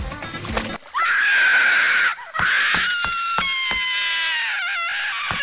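A girl screams loudly in sustained, high-pitched anguish after her palm is burned by hot liquid napalm, long piercing wails with brief breaks between them, with no talking.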